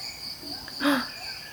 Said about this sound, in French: Voilà, donc à part ça, on entend une vingtaine de chants d'oiseaux au moins, des insectes, des geckos. On entend le son des gibbons.